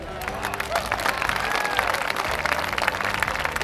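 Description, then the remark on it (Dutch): A crowd of Hamelin townspeople applauds the musician steadily, a dense wash of many hands clapping with a few faint cheers mixed in, sustained and fairly loud for the whole few seconds. “Inwoners van Hamelen, mag ik een heel groot applaus voor de muzikant.”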